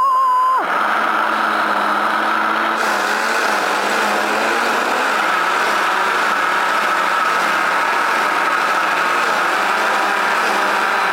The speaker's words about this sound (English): So we're going to blend that up. Here we go. Me and my blender.